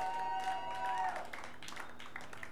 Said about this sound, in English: Give it a round of applause. Yes, for yourselves, people.